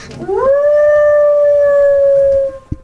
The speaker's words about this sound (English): Tim Akins came across his coyote, and it raised its head and howled out loud in his backyard.